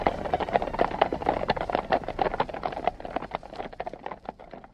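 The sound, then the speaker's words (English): A dense clatter of many horses' hooves clip-clopping on a hard street, the horses crammed together on a busy street in New York City, overlapping into a busy, continuous patter that stays fairly loud before thinning slightly toward the end. “They're all crammed together on a busy street. Let's say a street in New York City.”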